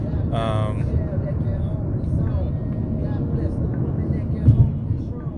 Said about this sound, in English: I apologize if I'm yelling. It's loud as fuck in this car.